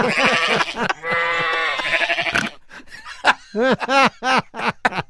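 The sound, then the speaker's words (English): Sheep bleat repeatedly and loudly, recorded at night on a tape recorder: a long wavering bleat, then a run of shorter, quavering calls with brief gaps between them. No one is talking. “I couldn't discern which of the sheep. Which was us. Can we hear it one more time?”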